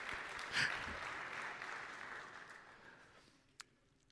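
A church audience claps together in a steady, dense round of applause for the reading of a Bible passage listing names; the applause gradually fades out, ending with a single sharp clap near the close.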